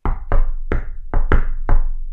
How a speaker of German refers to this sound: Für mich klingt das nur nach einem Vollidioten, der am Tisch klopft.